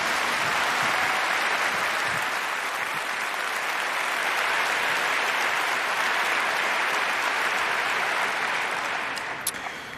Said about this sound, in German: Einen tobenden Applaus.